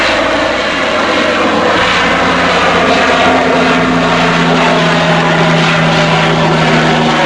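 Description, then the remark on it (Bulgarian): A propeller airplane drones loudly at an airport, its engine holding a steady, rumbling hum with a throbbing tonal whine throughout, as if taxiing or taking off. No one speaks. “Нашият съвет към ръководството на летището е наистина да забранят достъпа до това място, защото нищо чудно утре на някой ненормалник да му хрумне да се качи на хълма и да хвърли оттам в бързината граната по някой излитащ или приземяващ се самолет.”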